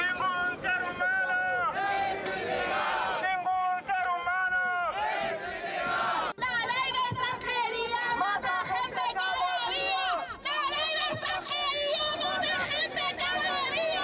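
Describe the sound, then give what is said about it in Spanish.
A crowd of manteros (street vendors) at an afternoon rally in Plaza de Nelson Mandela, Madrid, a year after a fellow vendor's death, shouts and chants loudly and continuously, many overlapping voices rising and falling in rhythmic bursts of rallying cries for the whole stretch. “En la concentración de esta tarde en la plaza de Nelson Mandela, los gritos nos llevaban a hace un año.”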